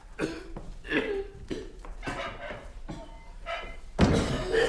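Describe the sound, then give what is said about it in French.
The ill King Louis XI coughs again and again in a steady series of harsh bursts, about seven in all, with the last cough the loudest and heaviest. “J'en ai assez de ce roi qui tousse.”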